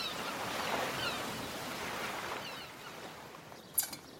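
A steady, hissing wash of sea surf rolls on with no one speaking, easing slightly toward the end, where a brief sharp click cuts through.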